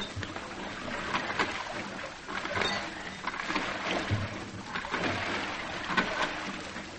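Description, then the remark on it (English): Oars dip and pull through water in a steady rhythm as men row boats toward a bridge in fog, each stroke a splashy swish about a second apart, with the wash of the boats continuing between strokes and no voices. “Begin rowing, men.”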